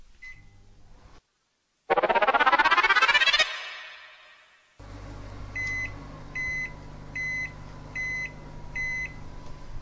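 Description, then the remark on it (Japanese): A 600-watt microwave oven beeps once, a rising whirring sweep follows, then the oven hums steadily while a series of short, evenly spaced electronic beeps sounds, as it heats pasta in a container for 10 minutes. No one speaks. “茹で時間は製品によって異なりますので、お使いの製品に表示されている茹で時間プラス3分を目安に電子レンジにかけましょう。”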